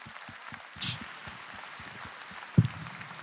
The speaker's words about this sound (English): Okay, I think that's all we have time for, unfortunately, but let's give Dr. Hyde another big round of applause.